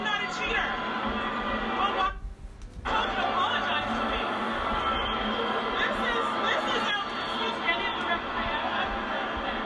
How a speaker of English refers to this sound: It was hard to hear over the crowd, but now I keep playing this because I want y'all to understand the real time of this match.